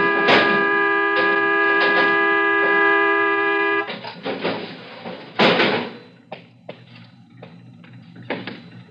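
A stuck car horn blares in one unbroken, steady tone for about four seconds, then abruptly cuts out, leaving a few scattered thumps and knocks.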